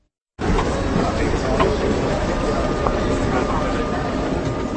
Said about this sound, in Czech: Takový je zvuk elektromobilu. Jak jste slyšeli, ve srovnání s klasickým autem je vůz na elektriku mnohem tichší.